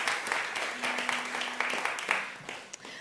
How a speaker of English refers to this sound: Let's give them another round of applause, please.